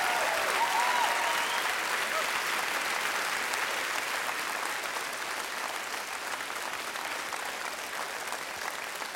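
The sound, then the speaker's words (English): A church audience claps steadily in honor of God, a dense wash of many hands that holds loud for several seconds before easing slightly toward the end, with no voices rising above it. “Now that's worth clapping for.”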